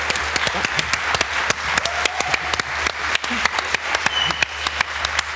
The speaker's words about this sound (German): Dankeschön. Dein Applaus.